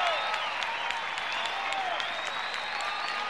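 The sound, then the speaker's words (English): A large crowd claps steadily and loudly throughout, with enthusiastic cheers and whoops rising over the dense wash of applause. “Let's give a real Georgia round of applause”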